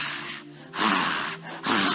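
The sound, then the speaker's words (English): A voice imitates a deer panting as it approaches water: three loud, breathy huffs in a steady rhythm, with no words spoken. “And when a deer is approaching water, you can hear the panting.”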